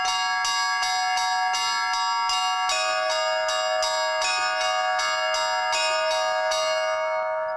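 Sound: church bell ringing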